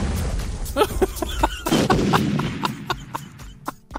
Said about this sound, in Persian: چه خبره؟ نترسید نترسید، ما همه با هم هستیم. نترسید نترس. انفجار شد آخه.